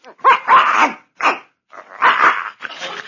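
dog barking

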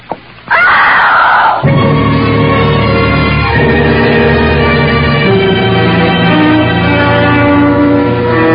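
loud scream

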